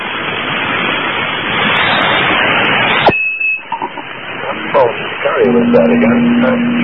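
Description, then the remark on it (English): Loud, steady radio static hiss cuts off abruptly with a click, giving way to quieter noise with faint muffled voice-like fragments and a low, steady carrier tone humming underneath. “Oh, carrier was there again.”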